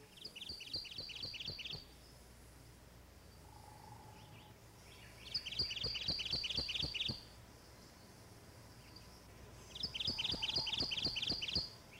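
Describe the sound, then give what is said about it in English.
A Kentucky warbler, an undergrowth-dwelling summer bird of rich woods, sings three loud, clear songs, each a quick rolling string of repeated two-part notes, separated by brief pauses over a soft woodland background hum. “In the northwestern part of the state only, and of local summer occurrence in rich woods, is the undergrowth-dwelling Kentucky warbler.”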